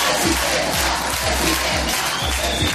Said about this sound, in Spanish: Es un día muy triste porque cuando digo Ayuso, oigo aplausos.